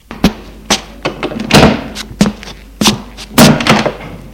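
A door is handled and shut, with a run of close, solid thunks and clunks coming every half second or so, a few heavier knocks standing out among them.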